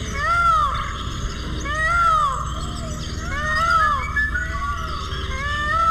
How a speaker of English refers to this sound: Among the calls of the many birds at the San Diego Zoo, there's the near-human cry of the peacock.